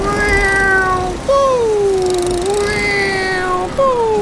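A cat meows loudly in three long, drawn-out calls, each sliding downward in pitch, with only brief pauses between them and no talking.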